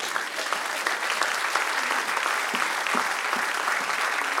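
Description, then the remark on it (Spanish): Sustained applause from a crowd fills the whole stretch, a dense, steady wash of many hands clapping at fairly even loudness, with no clear voices standing out. “Denle un aplauso al que rey.”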